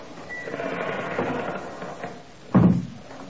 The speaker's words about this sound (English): And then, exactly like an old Leslie Howard Scarlet Pimpernel picture, the door opened slowly.